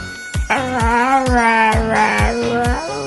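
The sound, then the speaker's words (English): A dog howls in one long, steady, wavering note over a rhythmic thumping beat, loud, holding the pitch for a few seconds before trailing off. “And I know a dog that does that.”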